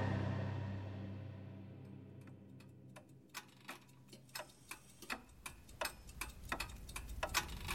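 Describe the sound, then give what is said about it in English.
Several clocks tick together, their sharp clicks overlapping into an uneven, busy pattern that grows denser over time, while a low rumble fades away early on. “I study time. Now, I repair clocks.”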